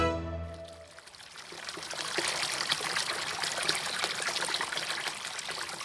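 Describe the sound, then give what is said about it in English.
Water trickles and splashes steadily into a water basin on the edge of the village of Nodorino, a continuous babble with no voices, after a short sustained tonal note fades out in the first second. “A water basin on the edge of the village Nodorino.”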